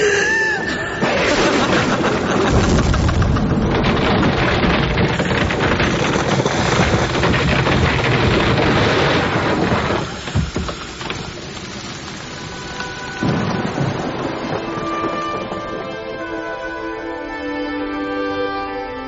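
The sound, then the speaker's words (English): A heavy night-time thunderstorm: dense, steady rain hisses throughout while deep thunder rumbles roll in, with gusting wind. The downpour eases slightly midway before surging again. No voices. “A brilliant June morning follows the tempest of the night.”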